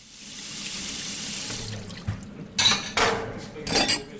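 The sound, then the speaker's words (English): A 55-year-old woman washes the dishes at a sink after a meal: a running tap hisses steadily, then a few sharp clatters of plates and cutlery knock together, loud with no talking. “washes the dishes after they eat.”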